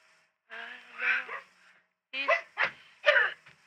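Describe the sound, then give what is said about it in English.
A dog named Randall, being told to get out, whimpers in a drawn-out, wavering whine, then, after a short pause, lets out three or four sharp barks in quick succession, fairly loud. “My daddy says he's telling the dog to get out.”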